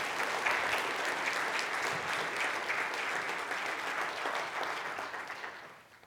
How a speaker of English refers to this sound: So give him another round of applause.